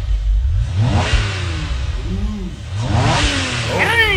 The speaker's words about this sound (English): Cars are revving their engines. I am wild. It's like Fast and the Furious trailer.